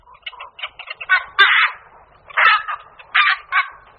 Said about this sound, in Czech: Tyto hlasité kvákavé zvuky dali název kvakoši nočnímu, druhu, který je aktivní hlavně večera. Létá však i v noci a naopak v době výchovy mláďat sbírá potravu i za dne.